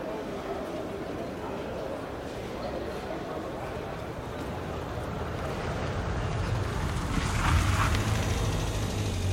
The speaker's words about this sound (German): Ja, und wenn man noch ein paar Geräusche hinzufügt, so wie Schritte, Kleingeldgeklimper, ein Auto und eine Menschenmenge, dann könnte sich eine Hörspielszene so anhören.